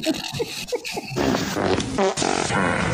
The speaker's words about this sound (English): Reach for the sky. There's a fart in that cow's butt.